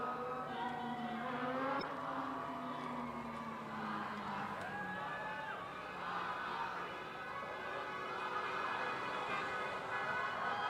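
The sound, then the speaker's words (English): Several car horns honk at once in support of protesters, in long overlapping blasts of different pitches, sounding steadily over busy street traffic with no pauses for about ten seconds. “More and more car beeping, showing their support for the protesters.”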